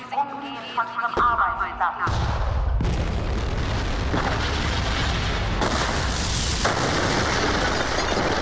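A brief electronic tone sequence cuts off into a string of loud, roaring explosions and crackling gunfire as the ESI is blown up, with fresh blasts erupting every second or so over a sustained rumble.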